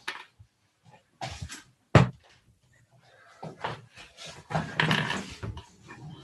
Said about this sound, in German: Ich muss einmal eben kurz die Tür zumachen. Ich bin sofort wieder da, weil ich höre Nebengeräusche bei mir.